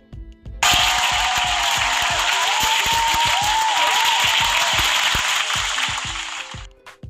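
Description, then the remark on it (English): An audience breaks into loud, dense applause for Bill Cosby on a show. It starts abruptly, holds steady for about six seconds, then tapers off at the end. No one speaks over it. “So whether you like that I said that or not, it's my show and we're going to give Bill Cosby a fucking round of applause.”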